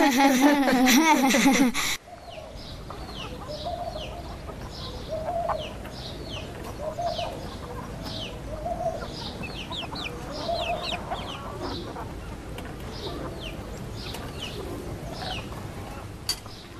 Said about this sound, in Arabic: عندها يسمع الملك صوته فيأمر بأخذ القطعة النقدية من الديك ليكف عن الضجيج، فيأخذون القطعة من الديك والديك يبدأ بالصراخ كوكو كوكو، إن الملك بحاجة إلي.